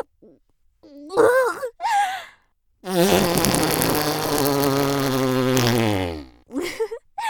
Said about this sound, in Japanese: どう？くっさいくっさいおなら。